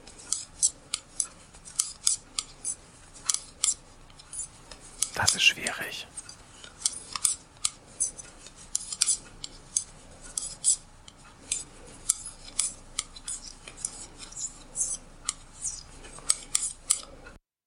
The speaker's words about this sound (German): Stricken.